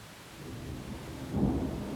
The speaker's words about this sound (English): Here. In the middle of the forest, in a storm?